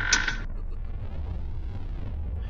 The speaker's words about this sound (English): I rushed over to James's room and creaked the door open.